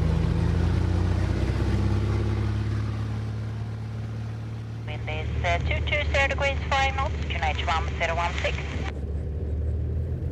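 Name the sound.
small propeller plane engine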